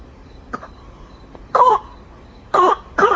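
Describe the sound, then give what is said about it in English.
Three short, harsh coughs, one then a pause and two more in quick succession, with a faint click before them and a quiet background hum. “Oh, cough.”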